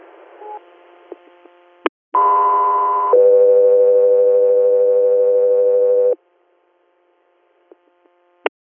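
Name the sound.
radio dispatch alert tones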